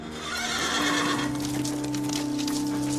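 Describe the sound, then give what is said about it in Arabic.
A horse neighs loudly, a long shrill whinny with wavering tones, accompanied by hooves clip-clopping on the ground. No one speaks. “الحصان الذي فر به طاهر”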